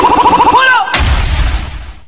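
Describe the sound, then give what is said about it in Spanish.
A stylized gunfire sound effect, depicting an enemy firing bullets from a pickup truck: a rapid, pitched rattle of about eight quick pulses, a brief falling whoosh, then a single loud blast that trails off into a low rumble. “Alfa, el enemigo está tirando balas desde una camioneta.”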